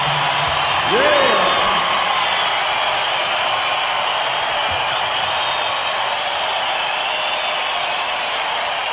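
A concert crowd cheers loudly and steadily in a dense, continuous roar, with a rising whoop or whistle near the start and scattered shouts throughout; no clear speech.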